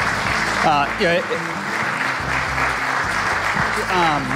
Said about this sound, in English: and a big round of applause.